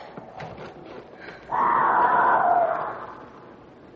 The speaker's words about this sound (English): Johnny, what's that? That's a cougar.